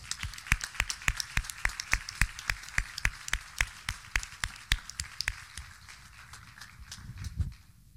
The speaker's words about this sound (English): But we want to acknowledge you. Can we just give these men a hand clap?